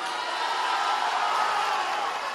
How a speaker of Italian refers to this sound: L'applauso più lungo al termine delle parole di Benedetto XVI, che col volto sereno, le braccia protese, incrocia lo sguardo di tanti che non vogliono lasciarlo andare.